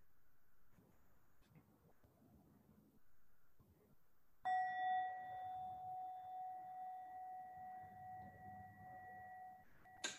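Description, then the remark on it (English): A single meditation bell is struck after a few seconds of quiet, ringing out with a clear, sustained tone that slowly fades over several seconds. “And I really encourage you, as I ring the bell, just listen to the fullness of the bell as it arises and as the sound passes.”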